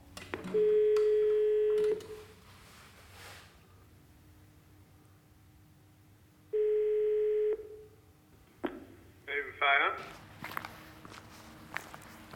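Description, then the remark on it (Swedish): Two long electronic ringing tones from a push-button intercom call box at a ferry waiting shelter, for the ferry between Barum and Ivö, after the left button is pressed; steady and fairly loud, separated by a pause, with footsteps and handling clicks in between and after. “Och här har vi ett skåp med tryckknappar. Och så står det tryck på vänster knapp och invänta svar. Jag provar.”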